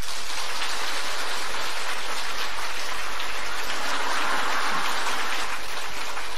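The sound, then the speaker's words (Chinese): Sustained audience applause, a dense, steady crackle of many hands clapping that stays fairly even in loudness for about six seconds, with no voices over it. “从你们掌声的鼓励当中，我以后还会再写很开心很开心。”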